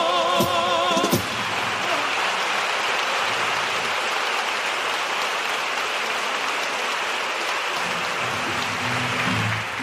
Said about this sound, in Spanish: Bueno, pues ya ven, el patio de butacas prácticamente en pie para aplaudir esta primera letra.